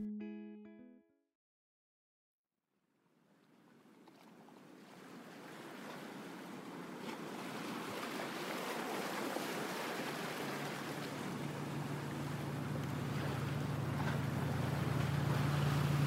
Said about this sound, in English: The water from the chilly ocean is splashing into your boat as you look ahead to see a beach